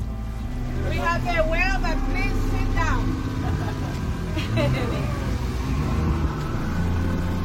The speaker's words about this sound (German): Das Boot rast auf eine Stelle zu, wo gerade noch eine Fontäne aus dem Wasser schoss.